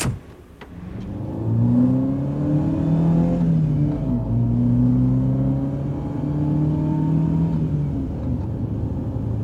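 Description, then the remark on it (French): A car pulls away and accelerates toward an honor pavilion, its engine note climbing steadily, dipping briefly at a gear change, then rising again. The engine is loud, with no talking. “On va monter dans la voiture.”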